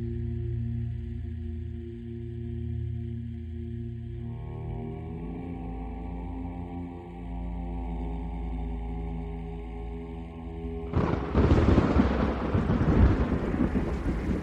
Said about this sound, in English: Lightning struck the antenna of the mobile weather station, and a fire broke out.